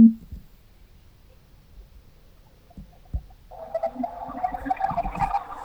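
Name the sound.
phone call ringing tone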